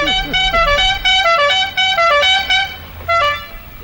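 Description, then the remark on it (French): A car horn honks loudly and repeatedly in short, insistent blasts on rue de Merlan, over a low rumble of street traffic. “Une voiture ! Attention, une voiture !”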